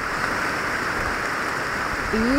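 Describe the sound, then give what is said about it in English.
Steady, dense rainfall hisses evenly through an old-growth forest in Borneo at night, with a faint high insect-like drone running underneath and a brief rising tone near the end. “This is the rain at night in an old growth forest in Borneo.”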